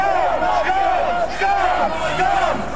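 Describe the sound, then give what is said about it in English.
A crowd shouts and jeers in overlapping, raised voices, a continuous loud clamour of heckling with rising and falling yells, including shouts of "scum" at Health Secretary Andrew Lansley as he leaves the Royal College of Surgeons in Edinburgh. “Andrew Lansley was heckled with shouts of scum as he left the Royal College of Surgeons in Edinburgh earlier.”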